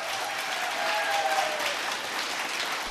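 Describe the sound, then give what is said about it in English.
A big crowd gathered at an event in the northern part of the state applauds steadily for a few seconds, a dense, even wash of clapping that holds at a constant loudness, with a faint whistle-like tone briefly rising above it. “Give us a little applause here so I can hear that.”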